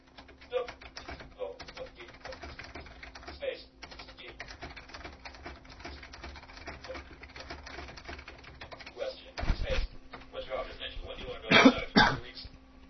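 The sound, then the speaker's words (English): Steady typing on a computer keyboard as a message is typed, with rapid clicking keystrokes throughout, over a faint constant hum, broken near the end by a couple of louder coughs or throat clears. “Now, I'll just type a response here.”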